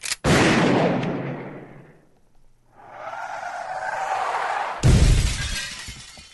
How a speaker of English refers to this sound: Oh, this is a car crash.